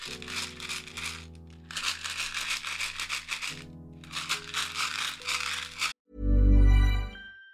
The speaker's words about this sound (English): I'm going to shake a carton of chewing gums so you don't get surprised by an advert.